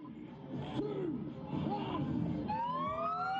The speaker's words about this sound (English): Sirens ring out as the first cars cross the border from New South Wales into Victoria, Australia's two most populous states. They're the first to make the journey since July, when the border was closed due to the coronavirus pandemic.